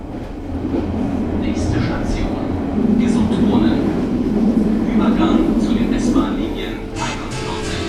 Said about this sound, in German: Bahnhof Gesundbrunnen. Ja, das war einer der wichtigsten Umsteigebahnhöfe in Berlin. Da sind täglich Tausende von Menschen langgelaufen.